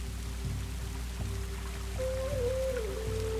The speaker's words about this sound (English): The soft rain intensifies, turning into a downpour that feeds a rushing river that will wash away anything you release now.